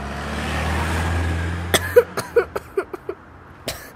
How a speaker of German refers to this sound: Und die Autos fahren viel zu schnell. Hast du gesehen, wie schnell der war? Kennen die gar keine Rücksicht?